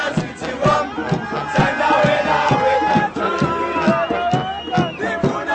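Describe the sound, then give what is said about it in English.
A large crowd of South African football fans celebrates, cheering and shouting continuously, with a dense wash of voices and motorists' car horns blaring through the din, loud throughout. “Members of the national team, accompanied by local dignitaries, blew kisses to the fans from the top of a double-decker bus as motorists honked their horns for the celebrating crowds.”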